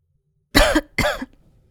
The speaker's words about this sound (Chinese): 好死不死地咳嗽道。